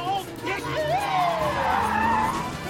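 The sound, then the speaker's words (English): A van's engine revs hard and climbs in pitch as an old man drives it off at speed after backing into a police car, tires screeching loudly against the road in a sustained rush. “The old man speeds off.”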